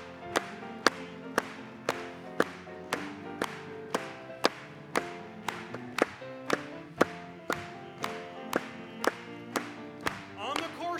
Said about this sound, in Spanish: Vamos a aplaudirle.